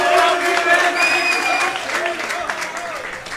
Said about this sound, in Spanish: ¡Un aplauso